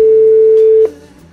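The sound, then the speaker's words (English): A steady, loud telephone line tone drones for most of a second, then cuts off abruptly, leaving faint background hiss, like a call that fails to connect. “Oh my goodness, this phone doesn't work again.”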